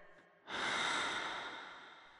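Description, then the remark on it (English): A single deep, forceful breath rushes in after a brief quiet moment during a breathing exercise, a broad airy hiss that swells quickly and then slowly fades, loud with no talking. “My breathing's different.”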